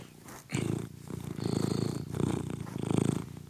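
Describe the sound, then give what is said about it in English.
A female domestic cat named Charlie purrs loudly while being petted, a steady rumbling that swells and fades in rhythmic waves with each breath, with no talking over it. “Want to hear my cat purr?”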